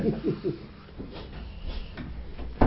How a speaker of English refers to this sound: Do you want the door shutting? We could yes, find, please. We couldn't find the key, could we? Keep the draft down.